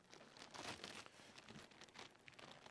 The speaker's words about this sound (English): Rip it all the way open there. You can rip it. I don't need that paper anymore.